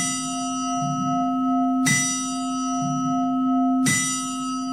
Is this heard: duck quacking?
no